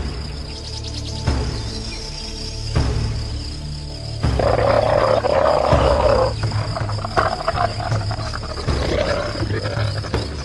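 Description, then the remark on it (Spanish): A deep, growling ceratosaurus roar swells and rumbles over a background of chirping insects, loud, rising in intensity midway before trailing into throaty snarls. “Eso que escuchamos fue el rugido de un ceratosaurio.”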